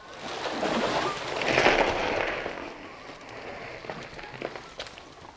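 Two divers hastily haul a rowboat ashore and shove it into a dense thicket of bramble bushes: a broad, scraping rustle swells early on, then gives way to sharp crackles and snapping twigs, without voices.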